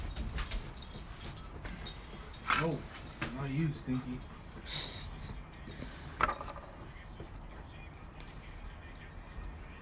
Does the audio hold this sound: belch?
no